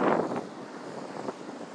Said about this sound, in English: Oh, it's starting to rain again. Lovely.